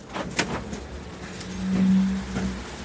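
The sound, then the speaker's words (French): A bus's front door opens mechanically at a requested stop to let passengers board: a few sharp clunks and clicks, then a steady low motor whine that swells for about a second over a rumbling engine idle before a final thud. “Il y a des gens aussi qui m'attendent, donc je vais ouvrir ma porte avant pour laisser rentrer la clientèle.”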